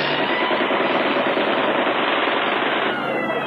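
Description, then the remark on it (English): Loud, unbroken roar of rapid machine-gun fire blended with engine drone as low-flying enemy American Boston planes attack vehicles, a dense steady barrage that shifts slightly in tone just before the end, with no voices. “And the enemy planes flying low.”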